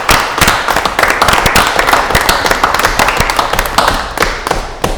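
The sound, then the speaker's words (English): A crowd applauds the staff at the end of a budgeting session, clapping steadily for about five seconds, a dense patter of many hands with sharp individual claps popping out, fairly loud and sustained without any voices over it. “Let's give them a hand.”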